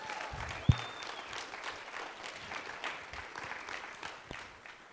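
Steady applause from an audience fills the room, a dense patter of many hands clapping at moderate volume throughout, with one sharp louder bump near the start.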